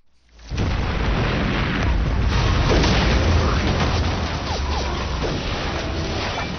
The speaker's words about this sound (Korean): 귀를 울리는 폭음과 총성이 연이어 들립니다. 기습 공격을 받은 한국군이 연달아 쓰러지고 돌격 명령을 받은 중국군이 적진을 향해 돌진합니다. 바로 중국 연속극 38선에 나오는 한 장면입니다.